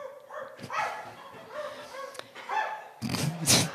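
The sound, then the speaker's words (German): A dog barks several times in the distance, short yelping barks spaced irregularly, ending in a louder, harsher burst of barking. “Irgendwo in der Ferne hören sie einen Hund bellen.”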